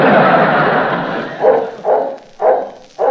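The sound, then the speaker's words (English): A dog barks four times in a steady rhythm, each bark loud, following a stretch of rough, noisy rustling at the start. “Well, I got your dog out here, Senorita.”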